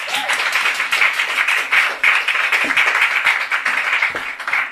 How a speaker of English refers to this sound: So please give a round of applause